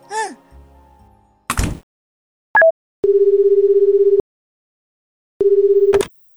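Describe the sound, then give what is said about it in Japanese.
A steady telephone tone sounds twice in long buzzing bursts, preceded by a brief clack and a short two-note beep, with some soft handling noise at the start; no one speaks. Someone is phoning a child's mother on a snowy day. “じゃあ、ちょっとママに電話してくるね。”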